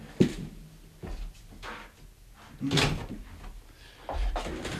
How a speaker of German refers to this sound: Ich muss die Türe zumachen, weil ich höre meine Stimme.